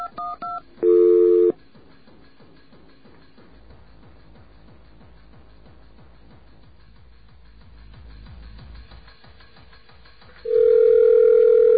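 A brief touch-tone beep and a burst of dual-tone dialing of a backup number on a phone system, then a quiet stretch of faint clicking and line hiss before a steady, loud dial tone sounds at the end.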